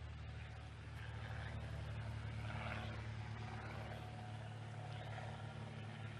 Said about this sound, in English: We'll wait for the plane to go by. Wave at the plane. Anybody wave back?